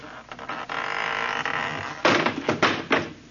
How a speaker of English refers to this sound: That door need a little tightening up, too. Fell right off.